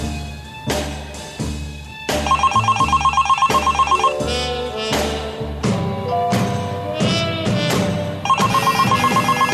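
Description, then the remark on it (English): A telephone bell rings in loud, rapid trilling bursts, one early and another near the end, over a busy, punchy musical backing with sharp hits. No one speaks. “My phone had been ringing off the hook for what seemed like an hour.”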